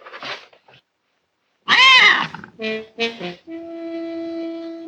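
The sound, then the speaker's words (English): A frightened kitten in a film scene hisses sharply, then lets out a loud, strained yowl followed by several shorter cries and a drawn-out, wavering growl, with no one talking. “Like this cat, because, you know, Irina, the cat, takes one, locks eyes with this kitten, and this kitten's not having it.”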